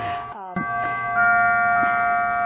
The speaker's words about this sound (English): Here goes my clock again. Atmosphere. I should have stopped it, I'm sorry.